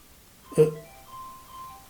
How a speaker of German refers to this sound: Das ist deins, ne? Hörte ich das? Nee. Das ist in meiner Jackentasche. Ach so, ja, ist ja gut. Also hier klingelt ein Telefon. Musst du da ran, oder? Nein.